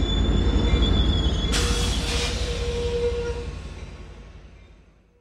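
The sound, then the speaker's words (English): A train rumbles heavily through the Amtrak train station in San Luis Obispo, California, its wheels letting out high, sustained metallic squeals over a low mechanical roar that gradually fades as it moves away. “I'm …, reporting from the Amtrak train station in San Luis Obispo, California,”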